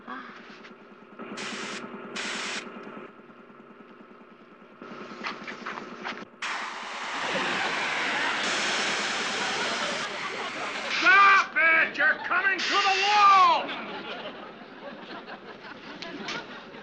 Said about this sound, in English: Oh, they're going to try spraying the house with a spray gun.